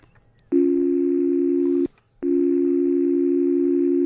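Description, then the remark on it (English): A voice imitates a telephone dial tone, a loud, steady buzzing hum held for over a second, broken off by a short gap, then resumed and sustained at the same pitch. “That was a good imitation of a dial tone.”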